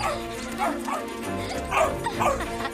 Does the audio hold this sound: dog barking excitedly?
yes